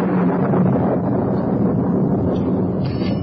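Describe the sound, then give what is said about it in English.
A storm's wind roars steadily with a deep, low rumble of thunder underneath, loud and unbroken throughout, with no voices. “I suppose you have a lightning conductor on this house?”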